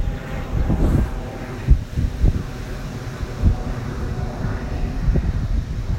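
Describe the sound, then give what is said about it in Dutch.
A low, steady rumble of an airplane passing overhead, blended with gusty wind rushing through trees in bursts. No voices, just a broad outdoor wash of noise at moderate level. “hoor je dit vliegtuig. En hoor je dan daardoorheen ook de bomen waaien.”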